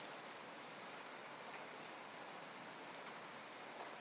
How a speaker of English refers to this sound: I missed you so much, Rain. I love the rain.